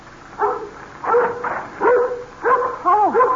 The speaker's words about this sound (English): now you stop your barking.